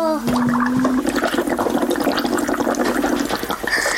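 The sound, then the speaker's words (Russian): Loud gurgling as air is blown through a straw into a drink, a steady stream of bubbling for about three seconds with a faint hum at the start, then a brief pause. “Попробуй побулькать.”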